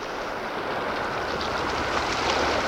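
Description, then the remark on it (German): A borrowed motorboat's engine drones steadily over a broad wash of water noise, heard from the beach at Malibu in the evening, growing slightly louder toward the end as it approaches. No voices. “Hört ihr das? Ein Motorboot.”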